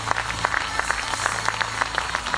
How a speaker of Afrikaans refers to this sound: Geef vader een harde hande klap. Verseker.